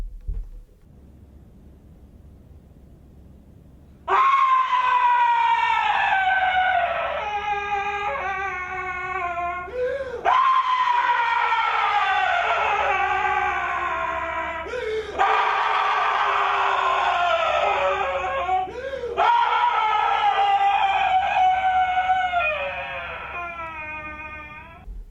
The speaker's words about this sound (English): This clip of a guy screaming is from an art piece called Danger Music 17 by Dick Higgins, performed live at the Australian Institute of Music in 2011.